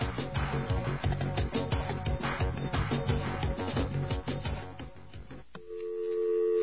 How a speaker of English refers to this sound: Ah, yes, there's our dial tone. And that means we're going to be exploring the phone network in just a couple of seconds.